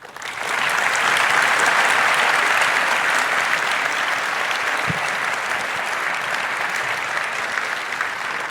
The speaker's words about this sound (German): Vielen, vielen Dank für diesen spannenden Talk. Eine Runde Applaus bitte nochmal.